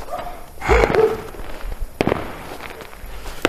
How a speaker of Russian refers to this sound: О, наконец-то на Энгельса начали салюты бахать. Ну что салюты, быстро как-то резко закончили, сейчас это уже никакого разнообразия нету.